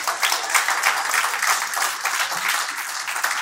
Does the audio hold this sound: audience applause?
yes